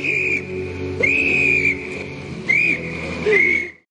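A person whistles a short tune in several clear, sustained high notes with brief pauses between phrases, fairly loud over a faint background hum, with no talking.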